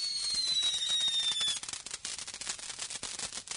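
A smoke bomb firework is set off: a high, slightly falling whistle screams for over a second, then gives way to a loud, rapid, irregular crackle of sharp pops. No one speaks.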